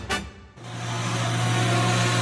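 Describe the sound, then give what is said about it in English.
A small grey-black single-seater electric car, a metre and a half wide, drives up to a parking space with a steady, insect-like electric buzz that rises in after a brief noisy burst and holds loud and even to the end. “With a buzzing sound like a swarm of insects, an electric car drives up to a potential parking space.”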